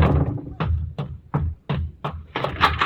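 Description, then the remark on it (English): A series of heavy, booming door slams, about five or six in quick, uneven succession, loud, with a low rumble filling the gaps and a busier clatter at the end. “Slamming doors, women yelling.”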